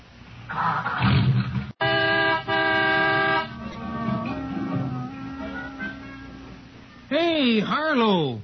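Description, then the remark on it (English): The horn of an Autolite-equipped car, powered by its Autolite electrical system, gives a loud, steady honk lasting about two seconds, following a rumbling engine start and trailing into quieter mechanical sounds before a wavering tone rises and falls. “I'm showing you how the Autolite electrical system in your Autolite-equipped car provides the power for starting the engine, sounding the horn, and playing the radio.”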